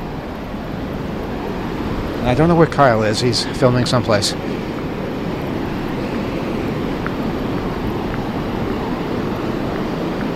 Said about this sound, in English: It's really, really windy. I can hardly describe it. I can hardly breathe because the wind is so heavy. But we're getting closer to the waves. I don't know if we'll hear the waves over the wind, but we can try.